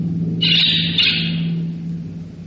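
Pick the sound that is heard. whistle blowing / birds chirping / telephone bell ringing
birds chirping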